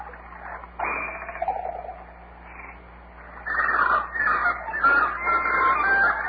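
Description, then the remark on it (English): Several birds squawk and cluck noisily, with chicken-like calls building into a dense, overlapping racket in the second half, loud, with no one talking. “Well, it's just damn birds.”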